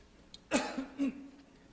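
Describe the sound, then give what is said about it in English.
Two quick coughs a half-second apart from a speaker with a frog in the throat, on camera at a Seventh-day Adventist Church Discipleship University gathering, each a rough burst with a voiced, throat-clearing rasp trailing after it, otherwise quiet. “We're on camera, but I have to cough.”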